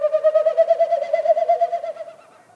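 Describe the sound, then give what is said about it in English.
A small bird about the size of a robin gives a display call from overhead: a hollow, steady whistling tone broken into rapid, even pulses, fairly loud at first, then fading away after about two seconds, with no voices. “It's going on over your head, so it's really hard to pinpoint where the bird is. Plus, the bird's tiny.”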